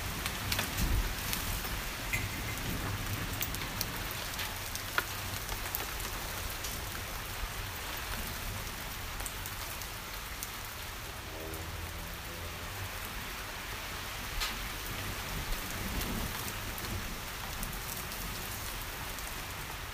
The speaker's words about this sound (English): Hailstones. This is typical English weather. Oh, it's all blowing in the door.